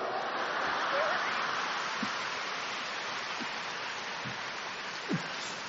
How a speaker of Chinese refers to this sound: 这个掌声还可以，所以不讲了。